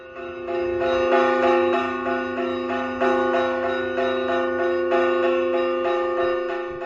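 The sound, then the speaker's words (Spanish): Saturnina, a large bell of the Church of San Saturnino in Artajona, Navarra, Spain, rings steadily on 3 December 2024, Day of Navarra, for San Francisco Javier, its strokes overlapping into a rich, sustained metallic hum with strong ringing overtones, loud with no voices present. “Hoy vuelve a sonar la campana saturnina de Artajona el 3 de diciembre de 2024, bandeando a San Francisco Javier en el Día de Navarra.”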